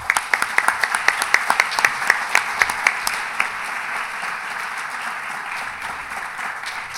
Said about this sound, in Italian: Ci sarebbe da riservare un applauso supplementare ancora al priore.